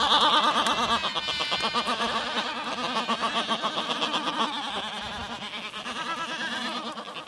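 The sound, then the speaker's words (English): A dense chorus of seabirds on Steeple Jason, a remote island in the Falkland Islands in the South Atlantic, recorded during a bird survey. Harsh, bleating, braying cries overlap continuously and stay loud throughout, with rapid pulsing in the calls and no talking. “And this sound comes from a bird survey I worked on in the Falkland Islands, specifically from a remote island called Steeple Jason.”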